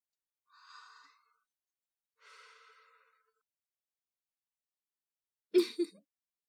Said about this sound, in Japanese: 首に私の吐息がかかってるの、わかる？悪魔の甘い吐息よ。で、息を吹きかけてみたりして。